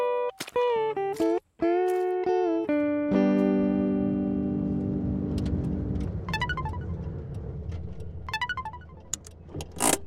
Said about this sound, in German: Du bist im Auto?